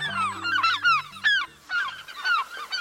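gull calls

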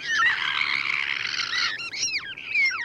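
ivory gull calls

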